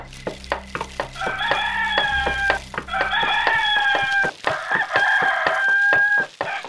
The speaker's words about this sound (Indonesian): Dan ayam jantan pun berkokok bersautan. Tanda fajar telah menjelang.